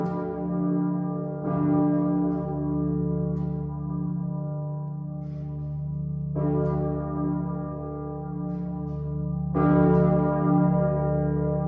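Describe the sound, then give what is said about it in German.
A deep, heavy church bell tolls alone, struck four times at uneven intervals, each loud strike blooming into a long, humming resonance that never fully fades before the next. It is a digitally simulated rendering of a planned new cathedral bell. “Wie sie klingt, das hat der Domglockenverein schon mal digital konstruiert, anzuhören auf der Webseite.”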